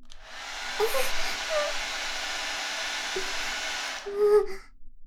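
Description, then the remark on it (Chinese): A hair dryer blows with a steady, loud rushing hiss and a faint motor whine, running for about four seconds before cutting off, followed by a brief tonal hum. “这是什么？吹风机？”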